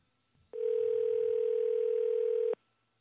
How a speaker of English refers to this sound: that's the Fox call-in line. Three ringy-dingers. I wonder if they've been hesitant to answer their phone.